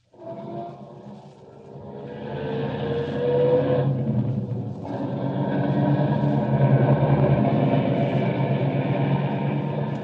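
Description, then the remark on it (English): A car engine cranks and catches, then settles into a steady, low rumbling drone that builds and holds as the vehicle pulls away. No one speaks over it. “Start up the car.”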